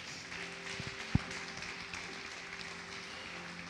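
An audience applauds, a dense, steady wash of many hands clapping that stays fairly soft for the whole stretch, with one sharper single clap standing out early on. No one speaks.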